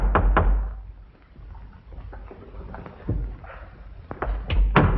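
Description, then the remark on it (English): A pair of sharp knocks at the front door, then a quiet run of soft, irregular footfalls as a man carrying a cup and saucer walks through the foyer to the door, ending in heavier thumps and clunks as he handles and opens it. “Picking up a cup and saucer, he stands and walks through the foyer to the door.”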